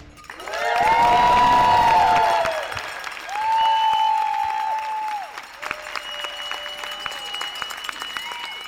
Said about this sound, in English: The choir sings four songs and leaves the stage to raucous applause.